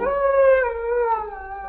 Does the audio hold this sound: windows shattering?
no